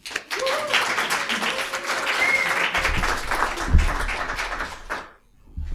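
An audience claps steadily for the children for about five seconds, a dense wash of many hands that fades out near the end, with a few voices and cheers mixed in.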